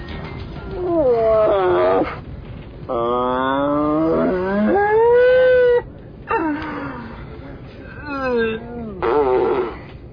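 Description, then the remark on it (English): A voice imitates a Canadian moose's mating-season call: about four long, wavering, nasal moans that slide up and down in pitch, loud and separated by short pauses. “Canadian moose during mating season.”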